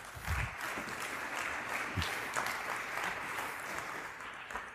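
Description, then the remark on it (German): A steady burst of applause, many hands clapping densely and continuously for several seconds at a moderate level, with a few sharper claps standing out and no voices. “Applaus dafür.”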